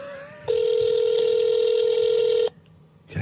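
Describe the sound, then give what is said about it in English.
A single long, steady telephone ringing tone, a foreign-style ringback buzz on a phone call to a phone abroad, sounds for about two seconds over the call line and then cuts off, leaving faint line hiss. “That's an abroad phone.”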